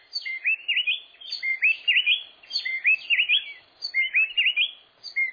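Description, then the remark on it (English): Two wrens, a mated pair, trade rapid, whistled phrases in an antiphonal duet, each singing a different phrase, so tightly that they run together as one continuous, bright song, repeating in bursts with brief gaps, clear with no voices. “The two wrens are singing a duet. Each sings a different phrase, but the phrases are so closely linked, we hear it as one song.”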